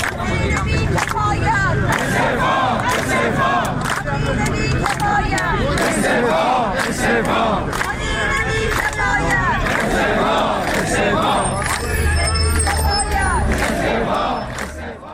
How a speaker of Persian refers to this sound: بازنشستگان تامین اجتماعی در شوش نیز در مقابل اداره تامین اجتماعی این شهر، در عراق در مقابل استانداری مرکزی و در تهران در مقابل سازمان برنامه و بودجه گرد آمدند. شعار تجمع کنندگان در تهران را می‌شنویم.